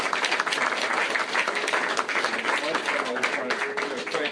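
A room full of people applauds steadily, a dense wash of many hands clapping at once, fairly close and sustained for a few seconds without a break.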